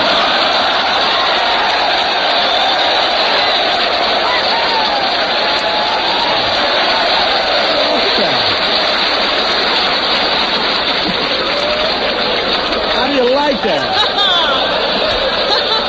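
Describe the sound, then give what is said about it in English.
An audience applauds steadily, a dense, unbroken wash of clapping lasting about sixteen seconds at an even, loud level, with some crowd murmur mixed in. “Did you ever hear anybody applaud themselves like that?”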